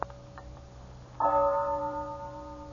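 A clock bell strikes once at twelve o'clock, loud, its rich ringing tone hanging and slowly fading, with a few faint ticks just before it and no voices.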